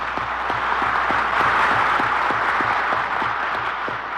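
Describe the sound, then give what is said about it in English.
Delegates to the General Assembly of the United Nations applaud the name of Mrs. Roosevelt, the delegate of the United States, as she mounts the rostrum: a dense, steady wash of clapping that holds at an even loudness throughout, with faint regular low thumps running underneath and no voices. “And as we listen to the delegates applaud the name of Mrs. Roosevelt, we see her, she who has done so much to further the cause of human liberty, mounting the rostrum to address the General Assembly of the United Nations.”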